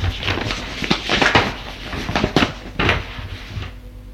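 desk drawer being opened

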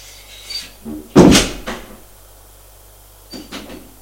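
door opening

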